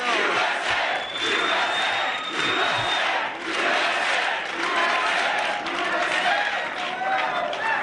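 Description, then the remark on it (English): A large crowd at the Conservative Political Action Conference (CPAC) roars and cheers continuously during a former US Vice President's speech, with clapping and shouting blended into a dense, loud wall of noise and a sharp whistle cutting through near the start. “and he gets so many people are praising him and they're clapping.”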